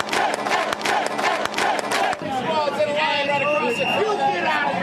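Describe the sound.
A crowd shouts and chants at a violent May Day street demonstration in Seattle, loud and continuous, with sharp percussive bangs in the first half and overlapping raised voices wailing and yelling after.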